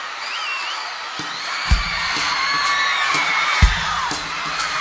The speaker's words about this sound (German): Großen Applaus bitte für die junge Dame hier vorne. Komm zu mir.